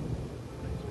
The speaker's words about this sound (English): Real rain?